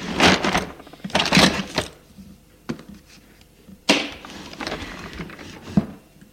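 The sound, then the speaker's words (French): A wooden drawer slides open with two scraping rushes, then a few soft knocks and a flat thud as a pad of paper taken from the drawer is set down on a table, with no voices. “sort un bloc de papier du tiroir et le dépose sur la table. Puis, prend un stylo à plume d'un autre tiroir.”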